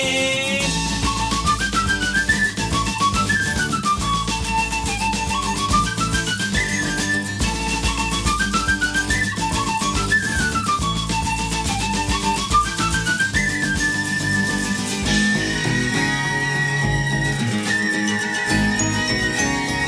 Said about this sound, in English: So come on, I'm a whistler. I have a pipe and a drum to play. Get ready for the whistler. I whistle along on the seventh day.